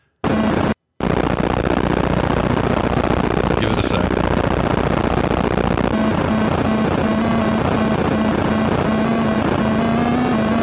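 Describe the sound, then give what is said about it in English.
A harsh, loud, noisy electronic drone of an Atari 2600-style video game helicopter leaving at the game's ending, with a steady low buzzing tone settling in partway through. A voice briefly speaks near the start. “That is such an Atari 2600 sounding helicopter.”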